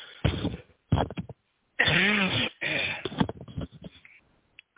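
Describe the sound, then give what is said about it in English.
A bout of harsh coughing: a couple of short bursts, then a longer strained, rasping cough with a voiced, wheezy tone, followed by more rough coughs that trail off. No one talks. “I hope I'm not into disturbing you with my cough.”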